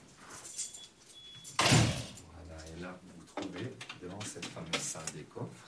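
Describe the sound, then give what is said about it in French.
A monumental heavy armoured vault door opens with a single loud metallic clunk and rumble, then people start talking. “Vous avez vu qu'il y a une porte blindée monumentale Oui. et une deuxième porte à grille.”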